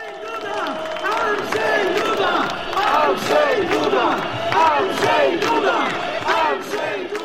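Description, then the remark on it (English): A large crowd of supporters and opponents of President Duda chants in loud, rhythmic unison at a political campaign rally in Wrocław, southwestern Poland, where he is about to speak. Many voices rise and fall in repeated bursts at a steady beat, with no pause throughout. “Some of that aggression is bubbling under the surface here in Wrocław, in southwestern Poland, where President Duda is about to speak at a campaign rally.”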